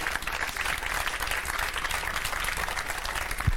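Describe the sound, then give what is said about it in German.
A crowd applauds steadily, a dense wash of many hands clapping at an even level for a few seconds with no voices rising above it. “Ich würde sagen, erstmal einen großen Applaus.”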